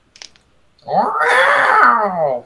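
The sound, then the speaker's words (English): A short hissing crackle, then a single loud, drawn-out yowl that wavers up and down in pitch for about a second and a half, like an angry cat squaring off. “Cat fight!”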